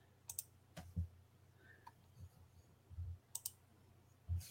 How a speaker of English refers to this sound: The only thing I don't like about this aspect of the program is I can only put these in one at a time. So it's a lot of extraneous clicking, and I apologize to everybody for it.